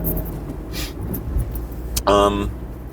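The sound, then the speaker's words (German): A car rushes past, driving too fast, faster than 50, its engine and tyre rumble loud and steady across the moment, with a short burst of a person's voice breaking in near the end. “Da kam ein Auto, ups, aber auch viel zu schnell. Ist nicht 50 gefahren, mein Freund.”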